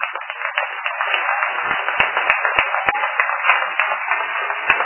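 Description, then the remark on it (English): Sustained applause from students in Belgium for a space crew, a dense wash of many hands clapping steadily at an even loudness, with occasional sharper individual claps standing out, and no voices. “And now for you and all the crew, a very big applause.”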